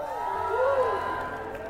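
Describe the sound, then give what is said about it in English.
A live audience cheers and whoops in a steady, fairly loud burst, with one voice rising above the crowd midway through. “You weren't supposed to cheer for that.”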